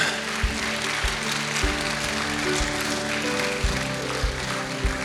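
An audience applauds continuously, a dense wash of clapping with no voices, while a low, steady thump recurs about once a second underneath.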